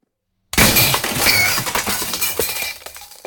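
Keys dropped down a huge well land on lots of glass at the bottom with a sudden loud crash, then a rush of shattering, tinkling clinks and clatter that rattles on for a few seconds before thinning out. No voices.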